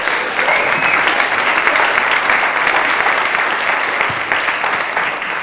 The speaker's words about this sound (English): Now what we're going to do, we're going to stick these back up on here, and as you go back to your seats, everybody else here is going to give you a huge round of applause for being so brilliant.